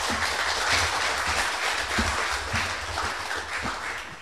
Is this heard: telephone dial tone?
no